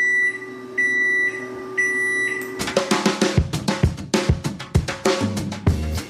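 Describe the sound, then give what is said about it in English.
A built-in microwave in Galveston, Texas beeps three times in a steady, loud, insistent pattern of long electronic tones, then a busy run of percussive clattering sounds takes over. “My built-in microwave beeped nonstop morning, noon, and night really loudly for 6 weeks.”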